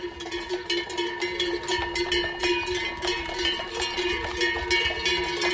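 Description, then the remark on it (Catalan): Many cowbells on the village's horses and cows clank continuously in an irregular, overlapping jangle as the herd goes up from Llívia to pasture at La Bullosa, Alta Cerdanya, during the transhumance festival; steady metallic ringing tones and frequent bright clanks, fairly loud throughout with no talking. “Que és la dels cavalls i vaques del poble, avui pugen a pasturar a la Bullosa, a l'Alta Cerdanya.”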